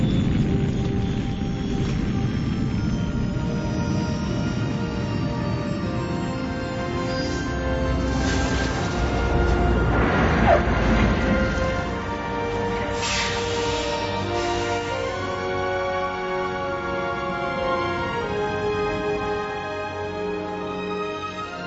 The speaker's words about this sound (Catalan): Sembla que tindrem un aterratge tranquil i serè. Com es pot aguantar la nostra Super Space One, eh? Com baixa. Atenció, prenem terra.